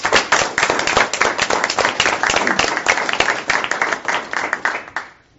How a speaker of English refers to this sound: Great. Congratulations. I'm going to applaud.